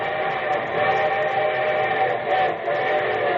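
A steam train whistle blows in a long, steady, loud chord, sustained for several seconds with the rumble of an approaching locomotive beneath it; no one speaks.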